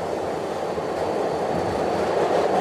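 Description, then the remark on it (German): A New York subway train, ridden by the state governor on the first day of the city's cautious reopening, rumbles steadily along the tracks, a loud, constant roar of wheels and motion filling the whole moment, with no voices. “Am ersten Tag der vorsichtigen Wiedereröffnung der Millionenmetropole ließ sich New Yorks Gouverneur sogar dazu herab, medienwirksam U-Bahn zu fahren.”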